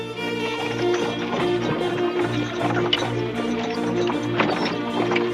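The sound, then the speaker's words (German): Three fully loaded horse-drawn carts leave the town of Weimar, clip-clopping along with steady hoofbeats and rattling wheels, set against continuous background music with sustained tones; no one speaks. “Nur wenige Wochen später verlassen drei vollbepackte Pferdekarren die Stadt Weimar.”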